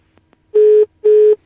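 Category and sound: signal or alarm, dial tone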